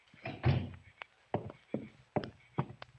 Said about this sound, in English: Doris, shut the door. Keep the rest of the family out of here.